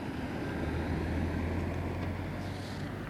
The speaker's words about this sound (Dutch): Druk verkeer.